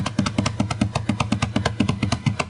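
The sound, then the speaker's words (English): A hand bangs rapidly on a counter, about a dozen dull, thumping knocks in a quick, steady rhythm, each hit sharp but low and heavy, with no talking. “You know, there were two guys, they were servants, and one of them always came in the South Office, and he would bang on the counter like this.”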